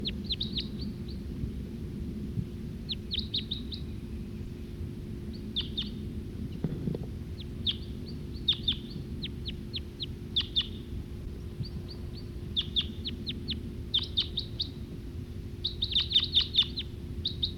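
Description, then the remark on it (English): A male wild bird perched in a tree sings in repeated bursts of high, sharp chirps and trills, fairly faint, over a steady low rumble of background noise; no one speaks. “That male who was singing, he's perched back up there in that tree.”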